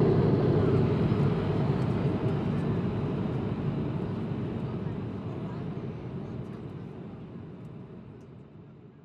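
Steady, low-pitched roar of an airplane cabin in flight, a constant engine and air drone that fills the space and gradually softens toward the end.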